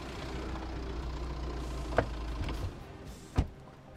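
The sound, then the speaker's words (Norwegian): A long limousine's engine rumbles low and steady, idling as it pulls up on the day of a concert, with two sharp mechanical clunks partway through, like a door or window. No one speaks. “På dagen for konserten kommer direktøren for TV-stasjonen rullende I en lang, flott limousin.”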